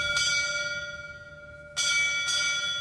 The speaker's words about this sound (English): Then, firefighters performed a centuries-old bell ceremony, a final call for a fallen comrade.